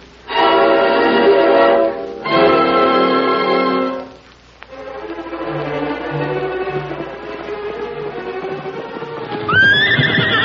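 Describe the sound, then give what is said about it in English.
In a Lone Ranger radio drama, a horse gives two long, loud, shrill neighs back to back as Tonto comes back fast from town, rhythmic galloping hoofbeats drumming steadily underneath, ending with a brief high whinny. “That's Tonto coming back from town. He's traveling fast.”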